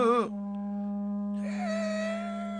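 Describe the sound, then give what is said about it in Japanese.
A long, sustained wailing tone like a crying voice, opening with a short pitch swoop, then holding one steady note that grows brighter and harsher toward the end. “なんかな、今の最後のはなんか泣き声的な感じですかね。”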